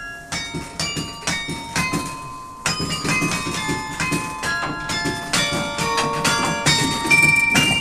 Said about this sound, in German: Es ist das Glockenspiel der Kasseler Karlskirche.